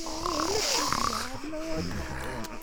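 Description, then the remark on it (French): A voice imitates snoring: drawn-out, rumbling voiced snores with wavering pitch, repeated several times over a couple of seconds at a steady moderate loudness. “Et ronfla de nouveau.”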